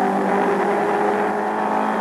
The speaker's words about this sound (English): You're listening to the car that won, the Ford Mark IV, a $100,000 car